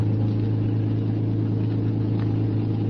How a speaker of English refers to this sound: Finally, they came out. The car started.